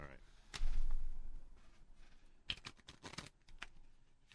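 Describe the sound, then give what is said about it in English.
Playing cards being shuffled: a loud papery burst, a pause, then a quick fluttering riffle of crisp snaps before a few final taps. “All right, I'm gonna. Shuffle.”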